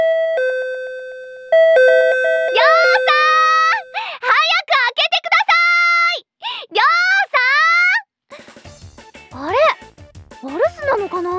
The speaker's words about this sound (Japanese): ん？あれ、ドアホン鳴ってた？誰だろうこんな朝早く。